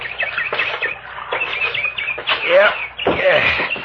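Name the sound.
bird calling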